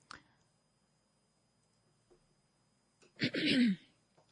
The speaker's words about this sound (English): Sorry, I thought I switched off the other mic when I was clearing my throat. Apologies for that.